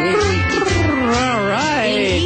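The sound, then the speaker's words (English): A person imitates a cat's meow as a sound effect for a pet-of-the-week segment on Animal World about a shelter dog, in a drawn-out, wavering voice, the pitch rising and falling over a couple of seconds, loud with a low hum underneath. “You can tell it's not a dog on our pet of the week this week. That's my helping out with sound effects.”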